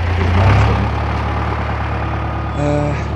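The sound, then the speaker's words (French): A heavy truck engine rumbles, a low steady idle after pulling to a stop, with a brief mechanical whine near the end. “Bah justement, il y a un camion qui s'arrête là.”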